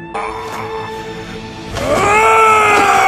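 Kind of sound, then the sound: human body sound, woman screaming loudly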